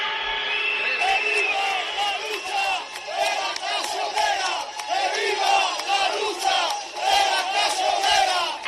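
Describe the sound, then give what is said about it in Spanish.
A large street protest crowd in the province of León, Spain, chants and shouts together against the closure of the Vestas factory, a loud, continuous roar of overlapping voices with rhythmic surges and sharp accents from whistles or claps running throughout. “La empresa que ha respondido ante este grito unánime con esa decisión de seguir adelante con el ERE, la situación a día de hoy es límite.”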